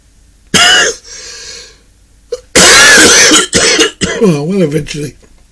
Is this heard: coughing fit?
yes